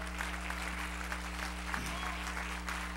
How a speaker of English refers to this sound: Praise God. Let's clap our hands unto the Lord and bless his name.